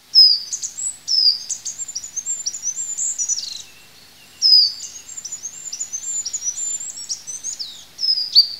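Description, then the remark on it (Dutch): A goldcrest, a small bird in a hedge, sings in very high, thin notes, two rapid cascading phrases of tinkling, piercing chirps separated by a brief pause. No voices are heard. “Een ander leuk voorbeeld is misschien zoiets simpels als de roep van het goudhaantje. Dat is een klein vogeltje die in de heg zit en die piept zo hoog dat mensen met slecht gehoor het hem gewoon niet meer horen.”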